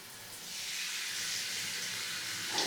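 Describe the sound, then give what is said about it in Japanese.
A shower sprays steadily as hair is rinsed after a final shampoo during a head spa treatment, a continuous bright hiss of rushing water that holds an even level throughout, with no voices and only a slight swell near the end. “シャワーの方、失礼させていただきます。”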